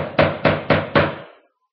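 Four firm knocks on a wooden door, evenly spaced in a steady rhythm, fairly loud, with a short resonant decay after the last one. No voices.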